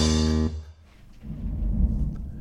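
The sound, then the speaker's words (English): A brief musical tone cuts off, then a deep, heavy thunderclap from a gigantic thunderstorm outside builds and rolls on, low and booming, with no voices. “There's an absolutely gigantic thunderstorm outside. Really? Yeah. Nice. Like one of the biggest thunderclaps I've ever heard.”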